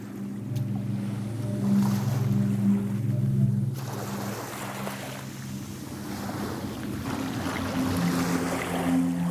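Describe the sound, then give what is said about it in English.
Ocean water rushes and washes steadily, the surf noise swelling after the first few seconds, over a constant low engine drone and some wind buffeting. No one speaks. “I think the noise of the ocean is quite repetitive, and I think that's quite soothing because it's a constant sound in it.”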